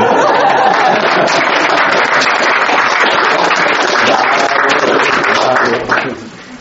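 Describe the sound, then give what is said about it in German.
Sustained audience applause welcoming the next speaker, a dense crackle of many hands clapping at steady loudness for about six seconds, then quickly fading out with a few scattered claps and murmurs. “Bitte einen rauschenden Applaus.”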